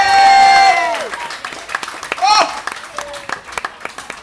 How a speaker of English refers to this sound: Proper cheer, everybody. They're brilliant.